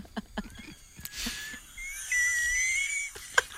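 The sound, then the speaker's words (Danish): A kettle whistles as water boils: a rush of steamy hiss gives way to a steady, high, slightly wavering tone that climbs and lasts about two seconds, with a few soft clicks before and after. “Så tror jeg, vandet koger igen.”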